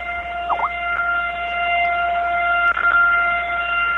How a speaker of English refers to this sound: Has the failsafe kicked in yet? Nope, still going. No? Ask your manager if they removed the governor from the Lunk Alarm.